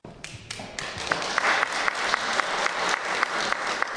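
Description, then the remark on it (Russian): An audience claps steadily for a musician, a dense wash of many hands with some sharper individual claps standing out, building slightly and holding at a lively level throughout. “Я думаю, аплодисменты и радость от встречи с таким музыкантом будет все больше возрастать.”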